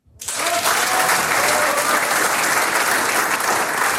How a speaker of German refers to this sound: Applaus